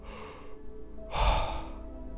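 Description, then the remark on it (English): A single deep, forceful power breath into the belly and chest rushes in, loud and airy, after a softer, quieter breath; no talking. “Power breathing. Belly, chest out.”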